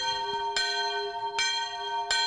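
A freshly cleaned bronze church bell weighing nearly 40 kilos is struck three times in steady succession as its first sound test, each stroke a bright attack over a long, rich ringing hum that sustains without pause between hits, clear.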